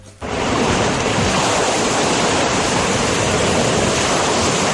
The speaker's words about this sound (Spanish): Esas son las olas. Son las olas, efectivamente.